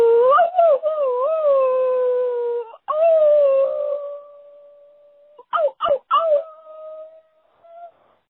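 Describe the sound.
A lone voice imitates a coyote howl over a tinny phone line, with long wavering notes that leap in pitch, breaking off abruptly and returning in short choppy bursts before a final trailing note.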